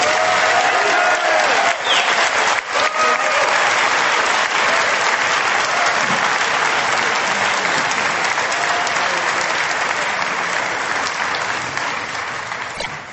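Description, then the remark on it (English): Sustained audience applause thanking a speaker after his talk, a dense, steady wash of many hands clapping at a loud level throughout, tapering slightly toward the end with no talking over it. “Way to keep clapping.”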